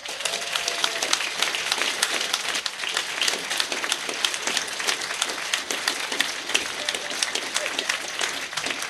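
An audience applauds steadily to welcome a speaker, many hands clapping in a dense, continuous patter that holds an even loudness for the full nine seconds without dying away.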